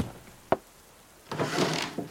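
A sharp wooden knock, then a second of scraping, shuffling clatter and a final soft bump as someone searches through desk drawers. No one speaks.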